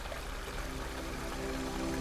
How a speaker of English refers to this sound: As you glance off in the distance, become aware of the golden pool. Hear the liquid flowing. It is like water.